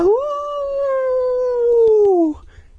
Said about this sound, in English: Hideous howls like an animal in pain, but too human to be from an animal. Long, shrill howls that cut through the air and echoed down the hill.